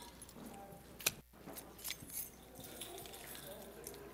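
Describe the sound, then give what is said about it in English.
Many sets of keys jangle together in a continuous metallic rattle, a crowd shaking them all at once with bright clinking accents, moderately loud with faint background murmur. “Come on, jangle those keys.”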